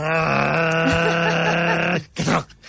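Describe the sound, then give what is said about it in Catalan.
A voice imitates a toll barrier lowering, proposed as a war cry: a sustained, loud, buzzy hum held steady for about two seconds, then cut off and followed by a brief, breathy vocal burst. “El crit de guerra serà... que és com baixa la barrera, és el, serà el crit de guerra.”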